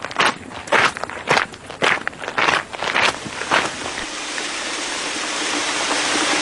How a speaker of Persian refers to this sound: خدای شکره، چه بارونی داره میباره.